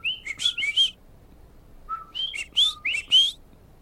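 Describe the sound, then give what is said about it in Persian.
Coqui tree frogs of Puerto Rico calling their own name rather than croaking: clear, high whistled notes with quick rising sweeps, arriving in two bright bursts of several calls separated by a short lull, with no voices. “کوکی یه جور قورباغه درختیه، صدای قورقور در نمیاره. اسمشو میگه.”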